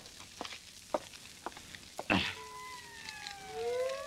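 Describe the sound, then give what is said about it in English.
Police sirens begin wailing partway through, several overlapping tones sweeping up and down and growing louder, after a few sharp knocks and a brief crashing burst. “You hear those sirens? Even the coppers know the first place I'd head for.”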